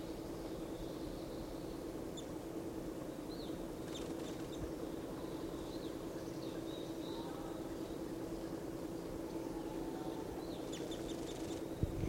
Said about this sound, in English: So recording. One of the birds is in the top of a lodgepole right above the net. Pointed at this bird.